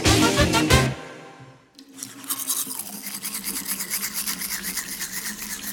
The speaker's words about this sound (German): Zum Schluss fräst und poliert er die Spange, damit sie gut sitzt, nicht wackelt oder scheuert.